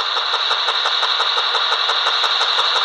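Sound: car engine running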